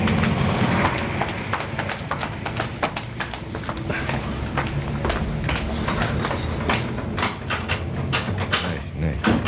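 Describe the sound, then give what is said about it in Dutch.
A door is shoved repeatedly against a chair wedged behind it, giving a run of irregular knocks and rattles over a dense, noisy background with faint voices. “Ze heeft het slot geblokkeerd. Nee, toch niet. Nee. Ze heeft iets tegen die deur gezet.”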